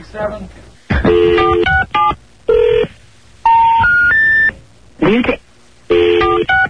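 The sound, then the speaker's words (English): A phone keypad is dialed, about seven loud electronic beeps of differing pitch. They come in short bursts at uneven intervals, with quiet pauses between some presses. “What's the number back there?”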